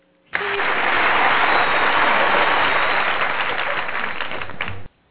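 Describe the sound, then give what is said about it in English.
A burst of audience applause welcoming a guest starts abruptly, holds steady and dense for about four and a half seconds, then cuts off sharply, with many hands clapping. “This applause is also to the man who brought all this up to her last night.”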